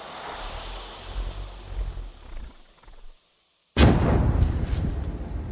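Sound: grenade explosion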